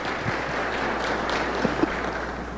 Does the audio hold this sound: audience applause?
yes